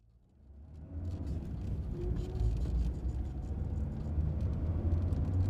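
A car engine rumbles to life and grows louder as the vehicle pulls away, a steady low motor drone that holds for several seconds, with no voices.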